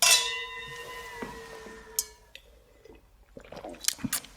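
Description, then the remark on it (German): Two glasses strike together in a toast in a single bright clink whose clear, bell-like tone rings on and slowly fades over a couple of seconds, followed by a few soft, small clicks and sips. “Dann lass uns doch erstmal anstoßen, bevor wir zum ersten Buch kommen.”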